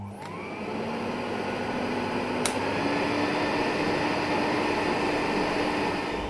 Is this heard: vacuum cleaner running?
yes